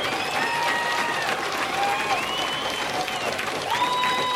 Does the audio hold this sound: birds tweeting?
no